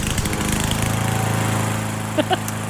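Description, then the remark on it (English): A lawn mower engine drones steadily and loudly, its rough buzzing hum unbroken throughout, with a couple of brief higher chirps near the end. “Is it a lawnmower?”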